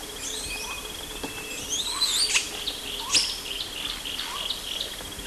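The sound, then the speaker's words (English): An adult male Baidya monkey from the CW group gives several short, high-pitched squeals, a couple of sharper bursts standing out, over a steady, shrill insect-like drone. No one speaks. “These are adult male Baidya squeals.”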